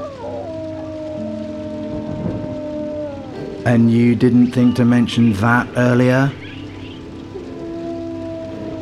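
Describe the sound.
Steady rain hisses throughout a rainstorm, with low droning tones underneath. A person speaks briefly in the middle, louder than the constant downpour.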